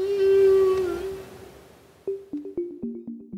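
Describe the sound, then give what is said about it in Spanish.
Whale song: a long, moaning tonal call fades out, then a run of about six short, rhythmic rising-and-falling whoops follows, clear and alone with no voices. “Yo toda la vida había querido ir a Nuquí a ver ballenas.”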